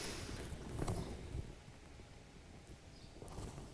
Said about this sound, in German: warte mal, bis er vorbei ist, der Traktor.